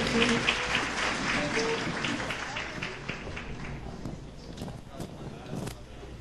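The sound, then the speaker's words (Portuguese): An audience applauds the members of the panel at a presentation of the a band, a dense, steady wash of clapping hands that holds strong at first, then thins and fades gradually over about six seconds, with a few sharper individual claps near the end. “Vamos aplaudir os integrantes da mesa, por favor.”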